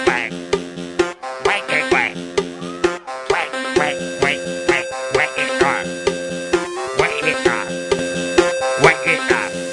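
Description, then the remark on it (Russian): Over a bouncy, steady-beat children's tune, a singing voice imitates a duck quacking, repeating short paired quacks in rhythm with the music. “Я уточка, кря-кря, кря-кря, кря-кря.”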